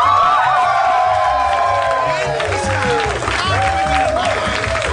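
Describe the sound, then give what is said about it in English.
A large crowd at a Harmontown show applauds and cheers loudly and continuously as the mayor of Harmontown, Dan Harmon, is welcomed to the stage, with whoops and high shouted voices rising over dense, steady clapping for the full five seconds. “Please welcome to the stage the mayor of Harmontown, Mr.”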